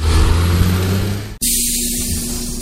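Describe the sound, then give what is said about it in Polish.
A tour bus in Berlin idles loudly with a deep engine rumble as a tour group boards for a short round, then a sharp hiss of air brakes releases midway before the steady engine drone continues. “Nasz autobus czeka na nas tam. Wsiadamy do niego i teraz robimy krótką rundę.”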